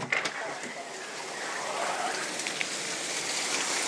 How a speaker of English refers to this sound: It's raining an awful lot outside. I'm going to open the door and take a look out here because it sounds like a Noah's Ark-type flood.